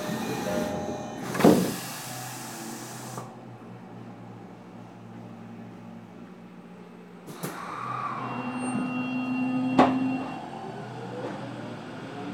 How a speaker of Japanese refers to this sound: 発車いたします。 中道行きドアが閉まります。ご注意ください。ドアが閉まります。